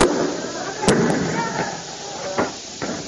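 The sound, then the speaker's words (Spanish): Police in Córdoba fire tear gas canisters at students: a few sharp, booming pops go off at irregular intervals, some louder than others, over a constant roar of crowd noise and commotion. “Escuchan disparos de gases lacrimógenos.”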